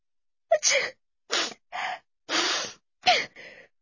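A quick series of sneezes, five or so sharp, breathy bursts with short pauses between, fairly loud, with no talking around them, illustrating a cold.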